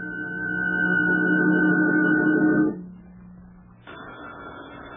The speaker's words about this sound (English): So will that phone ever stop ringing so we can get on with this?